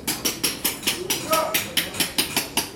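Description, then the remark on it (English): Rapid, steady metallic hammer strikes as coppersmiths hammer copper in a busy workshop in the old town of Gaziantep, about four times per second, bright, with a brief tonal ring midway as the metal is worked. “In the old town of Gaziantep, coppersmiths hammer away.”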